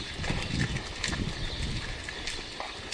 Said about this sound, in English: He is one of several owners of a dairy farm a little ways past the village of Norwalk. He watches his cattle eat and mill about in a large pen.